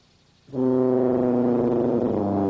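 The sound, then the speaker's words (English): A single loud, low tuba note blown hard, a raw honking blast that starts after a moment of quiet and holds steady and buzzy until the end, with no talking. “That weren't music. That were honking.”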